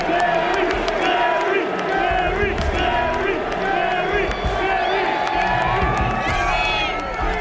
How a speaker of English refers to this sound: huge crowd out here